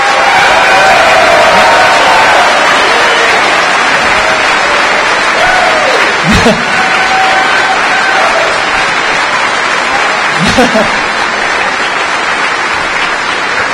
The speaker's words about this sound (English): And let's get a round of applause for everybody who helped out. Come on, raise your hands.